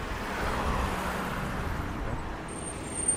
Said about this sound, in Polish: Przyjechała siódemka, ale raczej autobusy nie zabierają autostopowiczów.